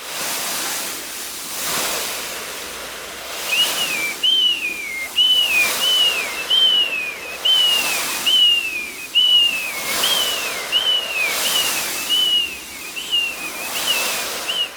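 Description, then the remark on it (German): A man-made imitation of the seaside: rhythmic whooshing swells like surf, joined after a few seconds by a steady string of short, high whistled cries mimicking gulls. No one speaks. “Es klang wie, wenn man am Meer ist und dann fliegen da halt so Möwen.”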